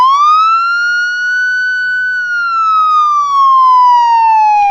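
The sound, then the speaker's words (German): A loud, steady siren wails alone, its tone rising slowly at first, holding high, then gradually sliding lower, with bright harmonic overtones and no voices. “Ja, Gasalarm!”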